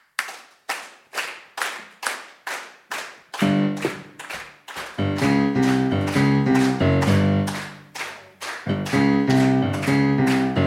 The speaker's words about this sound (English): Okay, thank you. Stop clapping like seals. Shush.